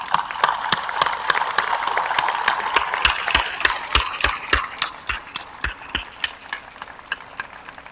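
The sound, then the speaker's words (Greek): An audience applauds steadily, a dense wash of clapping that gradually thins out into sparser, individual sharp claps toward the end, with no voices over it. The audience stands to applaud scholarship recipients. “Κυρίες και κύριοι, θα ήθελα πριν πω οτιδήποτε άλλο να σας παρακαλέσω όλοι μαζί, όρθιοι, να χειροκροτήσουμε τους υποτρόφους μας, τις και τους υποτρόφους μας.”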